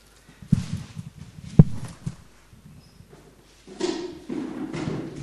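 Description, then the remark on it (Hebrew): Two sharp thuds, like chair legs knocking the floor, give way to a longer scraping shuffle as a chair is brought for a guest and set down into place, with no talking. “תביא כיסא גם בשביל השמחה השני.”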